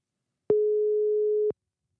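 A single ring of an outgoing phone call's ringback tone: one steady, mid-pitched electronic beep lasting about a second, heard alone and clearly, with faint clicks as it starts and stops.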